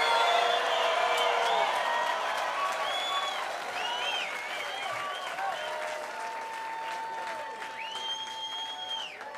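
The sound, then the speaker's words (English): A large audience at MerleFest applauds steadily for about nine seconds after a live bluegrass set, a dense roar of clapping laced with high whistles and scattered cheers, fading only slightly toward the end. “Appreciate your kind applause.”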